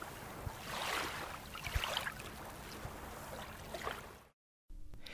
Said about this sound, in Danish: Det ligger helt deroppe ved toppen af Danmark, hvor bølgerne konstant skyller ind mod kysterne, og vinden næsten altid blæser.